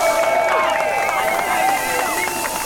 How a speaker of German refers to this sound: Applaus für Richter Müller!